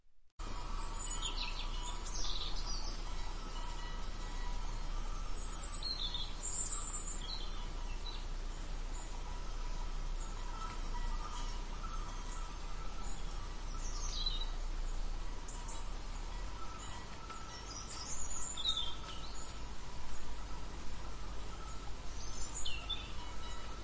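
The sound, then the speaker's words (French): Scattered bird chirps and twitters ring out high above a steady, quiet ambience in a forest of ancient trees, with several birds calling intermittently throughout. “Les oiseaux gazouillaient et les branches craquaient sous leurs pas, tandis qu'ils progressaient entre les arbres centenaires.”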